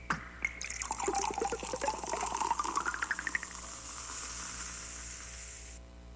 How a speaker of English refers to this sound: And so we were listening to this other unexpected Bubble broadcast, which was a recording of soda being poured, but augmented with these synthesized bubbles. Coca-Cola Pop and Pour.